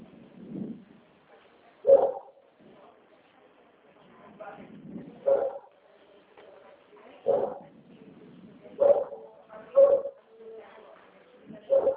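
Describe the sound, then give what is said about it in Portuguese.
A small dog barks nervously at a small bird in short, sharp yips, about six of them spread unevenly across the stretch, with soft whimpering and low murmuring sounds in between. “Cachorrinho aí tá nervoso, ó.”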